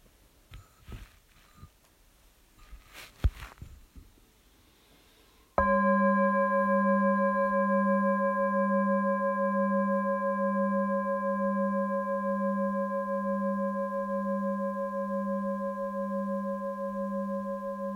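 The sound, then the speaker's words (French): After a few seconds of faint rustling, a meditation bell is struck once and rings on alone with a rich, layered tone, its low hum gently pulsing as it sustains, barely fading. “Et avec le son de la cloche, laissez la bienveillance toucher chaque être sensible dans cette pièce.”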